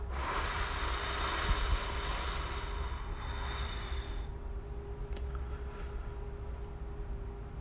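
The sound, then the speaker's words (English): A long, forceful exhale during a breathing exercise, breathing the rest of the air out: a steady rushing hiss that lasts about four seconds and then cuts off, leaving a low steady hum. No one speaks. “Now I'm just breathing the rest out.”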